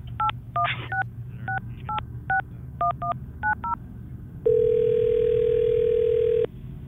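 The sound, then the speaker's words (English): A quick run of about a dozen telephone touch-tone beeps in an uneven rhythm, followed by a steady, loud ringback tone lasting about two seconds, over a low background hum. “Let me get my Twinkie expert on the phone here.”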